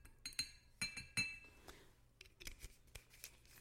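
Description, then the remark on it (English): Sharp clinks of glass with a brief ringing tone, then a run of softer clicks and rustling noise as a small bottle of drink is cracked open and poured into a glass. No one speaks. “I'm going to crack it open and pour it into my glass.”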